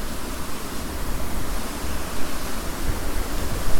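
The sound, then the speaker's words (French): Water flowing in a stream, a steady, unbroken rushing hiss with slight swells in loudness and no pauses. No voices are heard. “C'est sympa le bruit de l'eau qui coule.”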